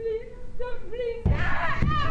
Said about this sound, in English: This is a woman's jaw being broken.